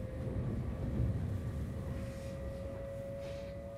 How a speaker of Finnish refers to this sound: joten otetaanpa juna Tikkurilaan ja matkustetaan seuraavaan tapaamiseen.